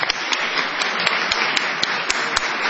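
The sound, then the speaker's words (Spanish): A radio studio audience bursts into sustained applause greeting the entrance of Esther Goris, a dense wash of many hands clapping steadily and fairly loudly for a few seconds, with sharper individual claps popping out of the crowd noise. “Vamos a saludar. Vamos a aplaudir a Esther Goris.”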